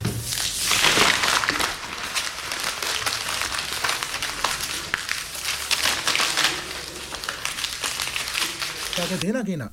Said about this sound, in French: Une feuille froissée.